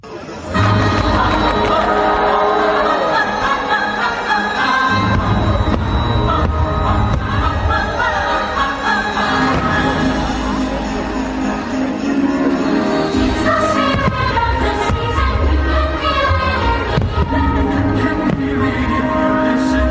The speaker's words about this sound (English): I love the fireworks themselves a lot, but I like the music that accompanies them just as much